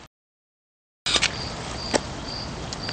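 After a second of silence, a cricket chirps in short, thin, high-pitched bursts over a steady background hiss, with a couple of soft clicks mixed in.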